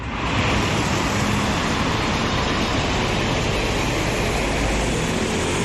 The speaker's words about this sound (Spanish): Así suena un día normal en la avenida Rosalía de Castro, en la Nacional 550. Por aquí pasan unos 30.000 coches cada día.